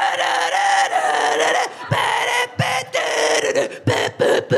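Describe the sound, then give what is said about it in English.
A crackly, distorted old recording of God Save the Queen, the British national anthem, plays loudly and continuously in a bar, its harsh, brassy tones filling the space with only a few brief dips. “No one had any time for any respectful silence, so they whacked on a crackly old version of God Save the Queen.”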